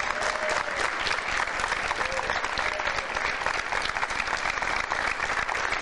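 A crowd claps steadily and loudly for several seconds, a dense, sustained wave of applause with no pauses and no talking over it.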